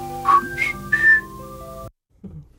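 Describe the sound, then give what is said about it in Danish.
Three short whistled notes in an AIDS-awareness spot, each a little higher than the last, ring out clearly over a steady sustained musical backing that cuts off abruptly, followed by a faint brief sound. “Ja, det der fløjt, ja, de tre.”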